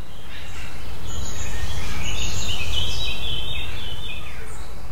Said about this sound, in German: Bei uns jetzt hier ist gerade sehr, sehr viel Vogelgesang, Kinder, die man hört.